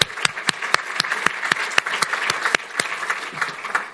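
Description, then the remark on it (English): A crowd applauds steadily to thank a grant writer, a dense wash of many hands clapping with some sharper individual claps standing out at a fairly regular pace, moderately loud throughout. “Give Jeff a round of applause.”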